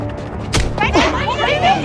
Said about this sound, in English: Suddenly, Brendan runs over and punches Rob.